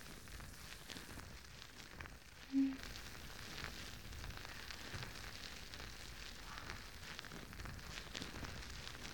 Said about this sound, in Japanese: こうして指で耳や耳たぶを軽く揉んでいくと、泡で汚れが落ちてすっきりしますよね。